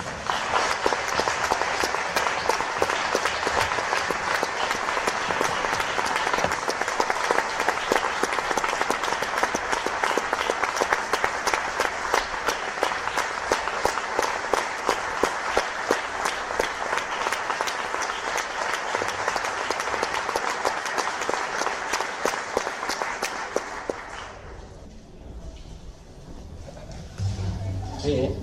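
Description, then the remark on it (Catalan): A concert audience at a family concert in Sitges breaks into loud, dense applause for the Cobla Maricel, many hands clapping steadily for over twenty seconds before it abruptly thins out into a quieter murmur. “En aquest cas sóc jo, com a director de la cobla, que us demano un fort aplaudiment per la Cobla Maricel.”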